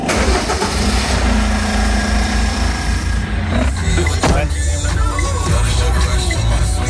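A loaded delivery truck at the Cycléo workshop in Bègles, used to move V-Cube bicycles between stations, turns over and settles into a steady, loud idle, its low rumble filling the whole recording with a few sharper mechanical clicks along the way.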